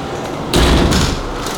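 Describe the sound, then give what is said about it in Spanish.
A single heavy, booming thud as four men ram a wooden door with a beam over a metre long with a steel ram's-head tip, loud, with a deep low rumble that lingers briefly before fading into a steady background hiss. “Sonrió ansioso y entre los cuatro, a su orden, comenzaron a arietar la madera como si no hubiera más vida que la violencia.”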